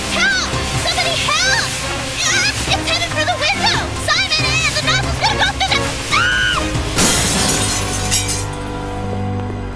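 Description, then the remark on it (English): A loud, steady rush of water blasting from a power sprayer that is out of control, with frantic voices shouting over the spray and a sharp crash-like burst near the end. “Turn off the water! Both turn off the water!”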